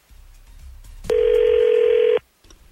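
A phone line ringing out on a call back to someone who had hung up: one steady, mid-pitched electronic ring tone lasting about a second, rising abruptly out of a faint low hum and cutting off cleanly into near silence.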